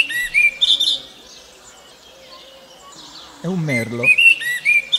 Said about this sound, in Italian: È un merlo. Ecco, per gli antichi romani, e mi riferisco ad una commedia di Plauto, La Casina, questo merlo sta dicendo qualcosa di preciso, sta dicendo cum cibo cunqui qui